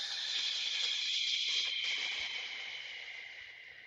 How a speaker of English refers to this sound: Put that right hand over your chest and the left hand on your diaphragm. Let's take the biggest deep breath that we've taken. Holding that in. And then exhale. That's how we going out. Exhale.